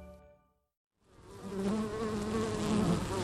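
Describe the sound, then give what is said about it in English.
A dense, steady drone of many bees buzzing around wooden beehives stacked at the end of a row of almond trees in an orchard, rising in after a brief quiet gap and holding loud and continuous, with a tonal hum wavering beneath the swarm. “The bees are mostly done pollinating this year's almond crop. Wooden beehives are stacked up at the end of a long row of almond trees.”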